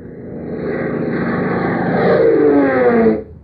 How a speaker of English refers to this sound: A high afternoon sun burns out of a cloudless sky, its rays gleaming on the wings of a speedy Beechcraft biplane roaring over the plains of Arizona.